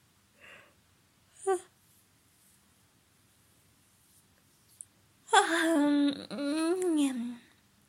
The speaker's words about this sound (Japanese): すごいあくび、でっかいあくびが出ましたね。ちょっと声ガサガサしてる。